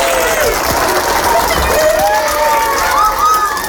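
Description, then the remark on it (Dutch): Schoolchildren in a school assembly hall cheer and clap together as old documents from the school safe are carried in, a dense, steady wash of high excited voices with rising shouts and squeals over continuous applause, loud throughout. “Hij loopt met de documenten naar de aula en de kinderen beginnen te juichen en te klappen.”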